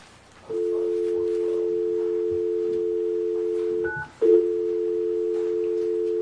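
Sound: telephone dial tone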